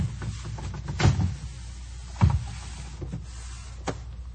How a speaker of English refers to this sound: And it begins simply by getting up from your chair, coming to your television set, and turning it around to face the wall like this.